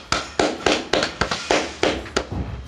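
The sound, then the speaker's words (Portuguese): A steady run of about ten sharp, bright claps at an even, brisk rhythm, each with a short ringing decay, applause welcoming a guest on an interview programme, with no voices over them. “Muitas palmas para Camila Lino.”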